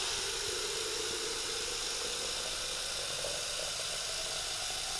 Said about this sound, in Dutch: Ik doe deze aan de kant, dan kan je mee kijken. Kijk hoe ver mijn kraan kan. Even kijken. Tot hier, oké. Shower!